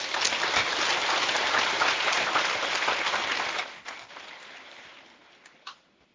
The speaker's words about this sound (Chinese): 鼓掌鼓得不热烈，因为没听懂，稍微讲的深一点就听不懂了。